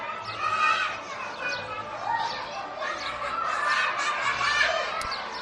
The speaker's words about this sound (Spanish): Bueno, poco a poco se acerca la hora del bocata, del recreo, todos salen al patio a jugar y a disfrutar del lío habitual de ese descanso. Carreras, gritos, risas, el sonido es inconfundible.